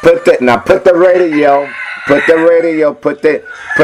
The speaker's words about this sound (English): I know Red finna wake y'all up. You ain't gonna be able to sleep with Red crowing.